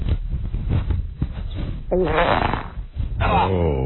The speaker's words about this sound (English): that was him farting into the phone.